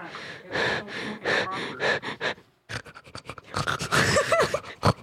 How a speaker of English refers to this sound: It's very close to my face. I can hear myself breathing.